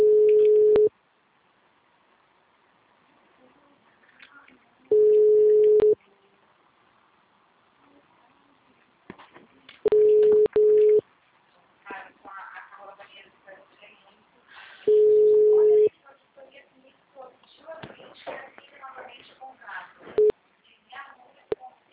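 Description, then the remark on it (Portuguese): A steady telephone busy tone sounds in loud one-second bursts at regular intervals, with background chatter and people talking faintly between and after the beeps. “Assim que o telefone estiver disponível, eu entrego o seu recado.”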